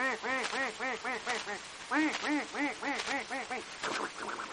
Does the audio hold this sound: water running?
no